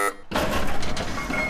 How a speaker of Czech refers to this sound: To byl signál, že se budeme točit a už se točíme. Ano, byl signál, že se budeme točit a už otáčíme s točnou.